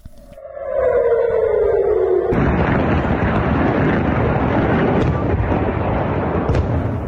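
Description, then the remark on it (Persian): A falling, high-pitched whistle of an incoming missile fired from Gaza ends in a sudden, loud explosion near Ben Gurion Airport in Tel Aviv, Israel, followed by a heavy rumbling roar that lingers for several seconds. “به دنبال ادامه حملات موشکی از سمت غزه به اسرائیل، ظهر روز دوشنبه صدای آژیر در مناطق مختلفی از شهر تل آویو به گوش رسید و ویدیوهایی در شبکه‌های اجتماعی از انفجار دست کم یک موشک در اطراف فرودگاه بن گوریون این شهر منتشر شد.”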